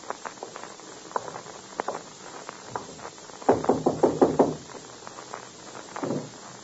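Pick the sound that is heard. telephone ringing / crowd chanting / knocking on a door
knocking on a door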